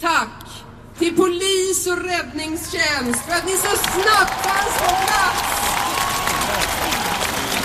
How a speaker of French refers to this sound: La maire de Stockholm, Karin Van Gord, lui succède pour remercier les services de secours et les policiers, à qui le public rend une véritable ovation.